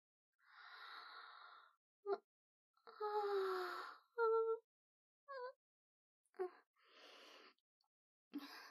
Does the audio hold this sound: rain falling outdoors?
no